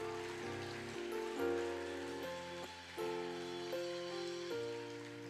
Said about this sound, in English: Oh, if you are clapping, clapping is free. Clap.